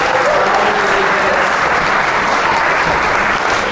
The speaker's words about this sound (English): So I really want to thank, first of all, our panelists up here. Round of applause for